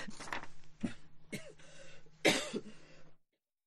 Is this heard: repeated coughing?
yes